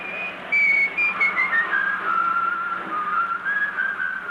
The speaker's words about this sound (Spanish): Pasa ante don Pietro, que silba la misma canción.